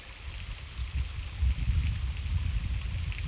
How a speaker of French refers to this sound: Écoutez la frêle petite cascade, pâle reflet de ce qu'est la puissante cascade, l'époque des grandes eaux. Et laissez partir.